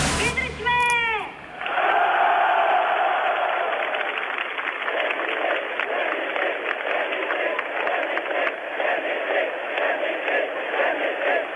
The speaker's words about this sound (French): Dubček laisse son regard se perdre dans la foule de 800 000 manifestants